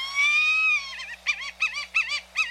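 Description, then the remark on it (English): A white-tailed hawk calls: one long, drawn-out, high whistled note, then a quick series of five shorter, quavering cries. The calls are clear and moderately loud, with no voices. “Otherwise, the handsome white-tailed hawk is a shy bird of prey, staying a good distance from admiring observers.”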